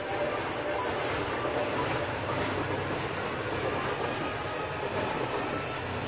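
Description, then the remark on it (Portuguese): A suburban train rolls steadily along the rails at night in a rainstorm, its wheels producing a dense, continuous rumble and rattle that stays loud for the whole stretch, with no pauses or voices. “O trem rasgava a treva num silvo alanhante e, de novo, cavalava sobre os trilhos.”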